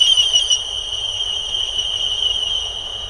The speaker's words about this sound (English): And then, of course, there's military sonar, where, again, we're generating a noise which we'll hope will bounce off some distant object, such as a submarine. Then by analysing the echo, we can detect the presence of that submarine.